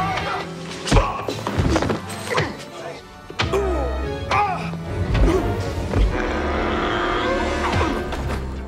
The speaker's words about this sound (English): Palm punches.